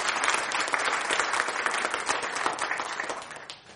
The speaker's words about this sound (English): You can clap. Show your appreciation.